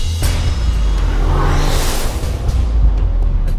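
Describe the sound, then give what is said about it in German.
A car engine roars as it accelerates hard to over 100 km/h through the city centre of Munich, with a deep, steady rumble and a rising whooshing sweep of speed throughout, loud with no voices. “Jetzt aber geht es mit über 100 km/h durch die Innenstadt.”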